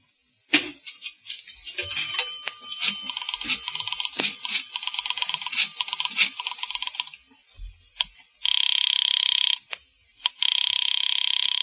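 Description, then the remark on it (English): A rapid run of mechanical clicking and rattling gives way to a wall-mounted telephone ringing: two loud, sustained bursts of an old-fashioned bell, separated by a brief pause. No one speaks. “Where's your phone? Oh, it's just inside the door.”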